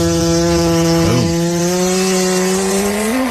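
A loud, drawn-out buzzy cat fart sound effect holds a steady low pitch for about three seconds, with a brief wobbling flutter partway through and a small upward bend at the end. No one speaks.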